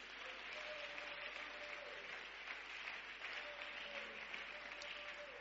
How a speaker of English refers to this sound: And that's why you need to give grace the loudest clap offering of praise.